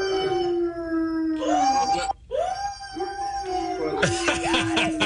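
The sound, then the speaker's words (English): Tim McGraw's dog, Stromboli, howls loudly in long, sustained, wavering tones that rise and fall almost like singing, with a brief pause midway before the howling resumes. “Tim McGraw was on the Kelly Clarkson show, and he was talking about how his dog, Stromboli, is a better...”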